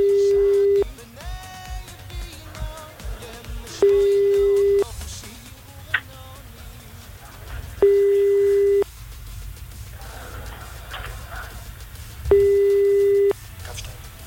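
A phone ringback tone while a contestant's father is being called: four steady, low-pitched beeps about a second long, repeating roughly every four seconds, with faint background noise in the gaps between them.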